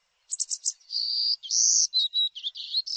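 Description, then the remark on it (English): A golden-cheeked warbler sings a buzzy, high-pitched song: a few quick notes, then drawn-out wheezy trills and a jumbled ending, heard clear with no voices. “By the end of July, the warblers are on their way back to mountain forests of southern Mexico and Central America.”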